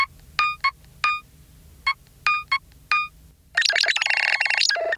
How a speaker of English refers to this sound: Which extends to the ringtones too, right? Yeah, yeah. The ringtones, I think, are a big part of the kind of identity, I think, of the phone is they're very kind of retro gaming console sounding.